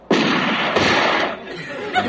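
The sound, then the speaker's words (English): A single loud hunting rifle gunshot from someone deer hunting close to the property: a sudden sharp crack followed by a broad rumbling echo that lingers for about a second before fading into quieter background sounds. “he hasn't come back yet from deer hunting.”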